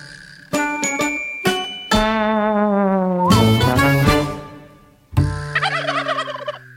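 bird, turkey gobbling

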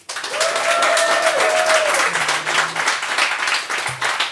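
crowd, audience applauding

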